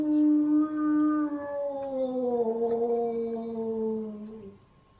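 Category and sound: animal, wolf howling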